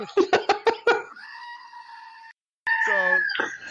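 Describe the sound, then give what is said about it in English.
A screaming goat toy lets out a few quick stuttering bleats, then a long, loud, strained scream; after a brief silence, a second raspy scream wavers and breaks off. “She has a screaming goat toy.”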